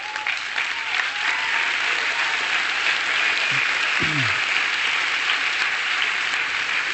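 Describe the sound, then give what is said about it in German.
A steady burst of applause from a crowd for the preacher Hans-Peter Reuer: dense and continuous clapping at a fairly even loudness for several seconds, with no speech over it. “Ja genau, könnt ruhig mal einen Applaus geben.”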